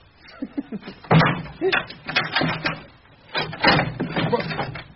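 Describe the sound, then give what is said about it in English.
A cabinet's bolts clunk down and its door swings open: a run of loud wooden knocks, rattles and scrapes in two bursts, with murmuring voices in the background. “if you want to drop the bolts now and open up...”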